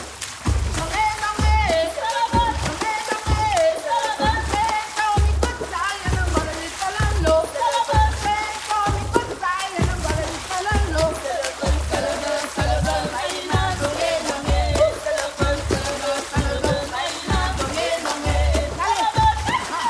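Water percussion music by an act of the Water and Sound festival for global music in Augsburg, Bavaria: deep, splashy thumps beat out a steady, quick rhythm, with sustained singing voices layered over the top, loud and continuous throughout.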